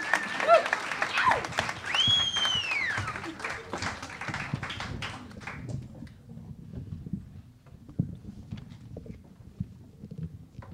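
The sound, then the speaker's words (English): Crowd applause for a musical duo after their song, dense clapping that swells early alongside a sharp rising-and-falling whistle, then tapers after several seconds into scattered claps and low crowd murmur. “We can have another round of applause for them.”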